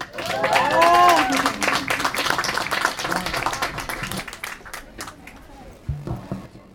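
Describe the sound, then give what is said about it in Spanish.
An audience applauds the children who voiced a reading of Ricardo Flores Magón's story La Barricada y la Trinchera, in a dense burst of clapping with a few cheers and whistles rising over it, loudest early on, then gradually thinning out over several seconds. “Fuerte aplausos para ella y ellos.”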